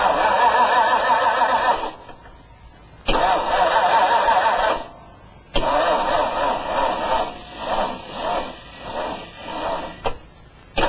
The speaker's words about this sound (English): Isn't that the quietest engine you've ever heard in your life?